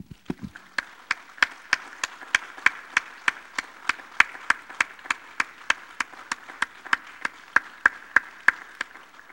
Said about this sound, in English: And this morning, mothers, we applaud you. We love you this morning. Let's give mothers a hand.